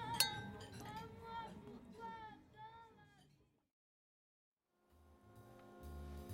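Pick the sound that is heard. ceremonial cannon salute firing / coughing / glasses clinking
glasses clinking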